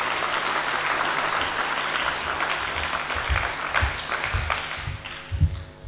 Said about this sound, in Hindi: हम इनका तालियों से स्वागत करते हैं। भाई और बहनों, ये स्पोर्ट्स पर्सन की तालियां नहीं है, प्लीज थोड़ा देखो।